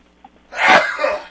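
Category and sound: human body sound, sneeze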